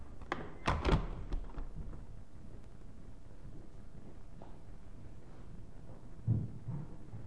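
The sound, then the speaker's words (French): A door is pushed open with a cluster of hollow thumps and rattles near the start, followed by quiet room tone and one softer thud a few seconds later. “Poussez la porte, s'il vous plaît. Non, bon, on va vous ouvrir quand même.”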